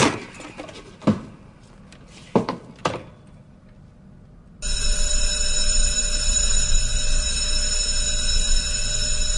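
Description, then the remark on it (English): A few dull knocks and clunks as a man pushes open a fire door, then a loud, piercing fire door alarm starts abruptly and rings continuously without a break until the end. “There were parts that I found slightly predictable, like the alarm going off on the fire door when he walked through the door.”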